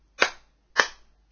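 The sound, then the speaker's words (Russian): Three sharp hand claps in a slow, steady rhythm, each a crisp bright smack with a short ringing tail, and no voices in between. “Слышите хлопанье в ладоши.”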